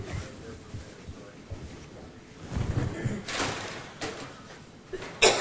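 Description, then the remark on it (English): A stuck door, still slightly locked, is tried several times by someone trying to get in: irregular rattles and thumps of the handle and frame, somewhat muffled as if from the other side, ending in a sharper clunk. “Is the door stuck or something? She can't get in.”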